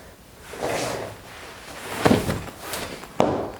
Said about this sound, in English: falling from a chair as she fails for the third time to catch a candy cane in her mouth.